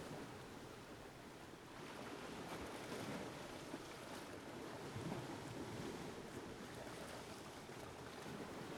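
Steady sea waves wash onto a deserted beach while wind buffets the microphone, a broad continuous rush of surf and gusts carrying salty spray, with no voices, even in loudness throughout.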